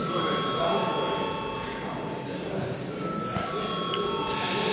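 A parliamentary chamber bell, rung at the chair's request before a vote on a bill, rings steadily for several seconds, a continuous high electric tone over a murmuring background.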